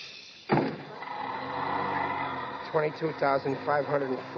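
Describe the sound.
A bus door closes with a sudden loud thump and a sustained hiss of air that lingers for a couple of seconds, then a man starts talking over the fading sound.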